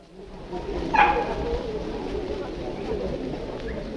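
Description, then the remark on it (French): A dog gives a sharp, high yip about a second in, over a steady murmur of crowd noise and indistinct voices, with fainter barks in the busy background, at a dog and cat market held at the Cité flower and bird market. “Certains de nos auditeurs se sont étonnés et même émus que le marché des chiens et des chats qui était autorisé, ou tout au moins qui était toléré au marché de la cité, au marché aux fleurs et au marché aux oiseaux”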